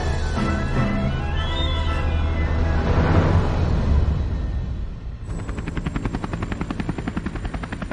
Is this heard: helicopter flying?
yes